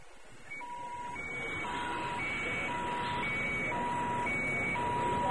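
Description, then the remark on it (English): A warbling siren alternates steadily between a high and a low tone, signaling an all-clear at Ord Mantell's primary spaceport, repeating evenly over a constant low rumble, fairly loud, with no voices. “Warbling sirens signaled an all-clear as C-3PO hurried past the open-air launch pads of Ord Mantell's primary spaceport.”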